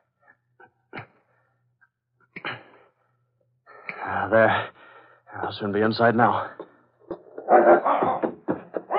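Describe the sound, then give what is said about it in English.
Police dogs bark and growl in loud, rough bursts that follow one another quickly, after a man speaks briefly over a few faint clicks and scrapes. “Police dogs. I've got to quiet them quickly.”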